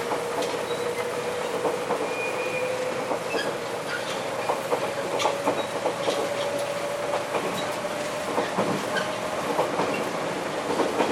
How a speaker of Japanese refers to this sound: JR 九州をご利用くださいましてありがとうございます。この列車は大分行き特急日輪83号です。